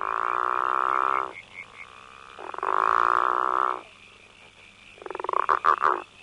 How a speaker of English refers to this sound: When females have a choice between two males calling, they tend to select the one that calls at a lower frequency because in frogs, the frequency of a call is related to body size, so the bigger frogs tend to call lower.